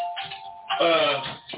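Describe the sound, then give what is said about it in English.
A phone rings with an electronic ringtone: a steady chime-like tone gives way to a louder burst of bright, warbling notes, with no voices over it. “Where the fuck is that motherfucker phone?”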